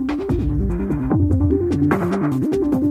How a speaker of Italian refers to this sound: lo dico subito, c'è dentro veramente tanti suoni, si arriva anche a pezzi di progressive, ma la progressive, un tipo, non so, la musica quella ossessiva, quella con tantissimi battiti al secondo, e poi c'è anche un accenno di crowd rock, sentite qua.